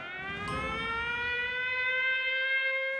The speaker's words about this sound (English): I remember the first day, the very first day, when city officials installed the warning sirens.